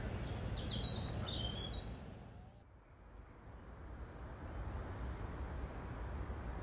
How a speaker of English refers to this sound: Although there's a hum of industry in the background, the birdsong is still very much the primary sound that you can hear.